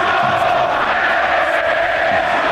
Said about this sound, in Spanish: Lo de Mono Mono gritó una buena parte del estadio.